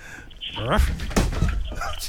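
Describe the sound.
A person tumbling off a chair: a couple of heavy thuds and a clatter of furniture over about a second, close by, with a startled voice crying out around the impact.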